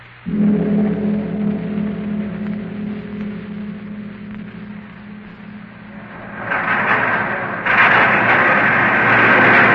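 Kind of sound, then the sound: vehicle, subway train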